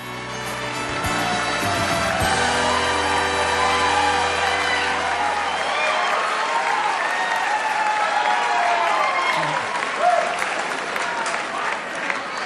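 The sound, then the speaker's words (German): Sustained applause from a lively crowd at the 77th Golden Globe Awards ceremony, with scattered whoops and shouted cheers rising over the clapping, loud and steady throughout, with a rowdy, slightly tipsy fan-club feel. “Und dann gibt es so einen Applaus, der so ein bisschen so Fangroup-mäßig ist und der eindeutig auch schon ein bisschen beschwipst klingt.”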